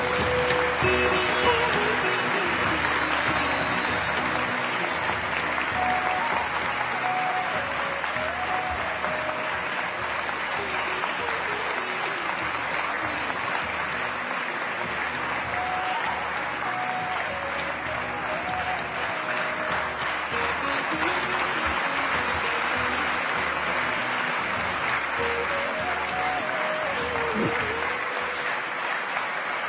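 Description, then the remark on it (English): A large crowd claps steadily and continuously for the whole stretch, a dense, even wash of applause with no voices standing out. “I think they deserve a very big round of applause.”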